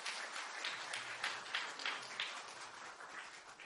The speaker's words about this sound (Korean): 모두 박수로 축하해 주시기 바랍니다.